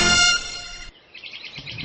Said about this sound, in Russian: Давай помолчим буквально секундочку и послушаем этих птичек.